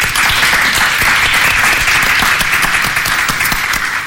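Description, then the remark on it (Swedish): A live audience at the Historiska museet in Stockholm applauds steadily, many hands clapping in a dense, continuous wash of sound that stays loud and even throughout. “Och en applåd för publiken som är här idag.”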